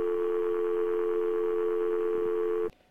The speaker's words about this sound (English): Because there are dial tones in Skype.